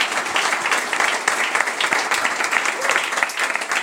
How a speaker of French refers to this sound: Et c'est déjà la fin de ce grand numéro de Rétro 2050 pour lequel nous avons été heureux d'accueillir toute l'équipe de Deezer ainsi que les abonnés premium qui étaient là avec nous. Applaudissez-vous, s'il vous plaît, puisque